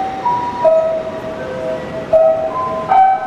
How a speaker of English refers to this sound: That was the traditional chimes that go off every day in Tokyo at 5 p.m.